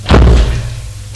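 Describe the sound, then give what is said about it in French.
An apartment door swings shut with a single heavy thud, a low, boomy impact that rings briefly before fading into a faint hum. No voices are heard. “Guillaume ferme la porte de son appartement.”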